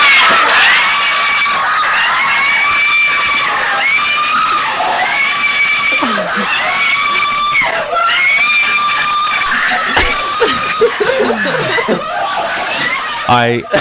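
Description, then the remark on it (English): Four Filipino men sitting on a bed shriek and scream together in high-pitched, sustained bursts of excitement, loud, with squealing rises and breathless laughter breaking through over about fourteen seconds, as they watch a beauty pageant result in which the Philippines wins. “This is four gay Filipino men sitting on a bed watching the result for Miss Universe.”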